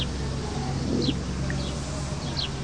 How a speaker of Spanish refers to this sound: Escuchar los pájaros que marcan la hora del atardecer, cuando el sol declina y ya pronto viene el crepúsculo y luego la noche. Ya se está aquietando el canto de los pájaros que van a descansar.